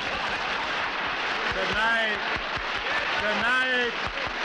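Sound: audience clapping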